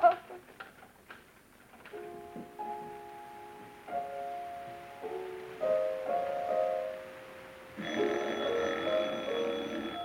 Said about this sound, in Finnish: Odottaakaa jotain soittoa. Säpsähtää heti, kun puhelin soi.